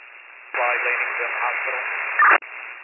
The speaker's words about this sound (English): I did not receive your transmission. It was all static.